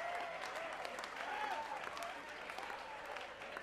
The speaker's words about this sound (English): New York City has the most beautiful ladies in the world. So let's give these ladies a round of applause.